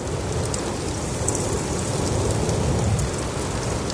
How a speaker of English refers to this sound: When I turned on that recorder and heard the sound of space open up for the first time, it's magical. The effect of breeze in the canopy of the redwoods.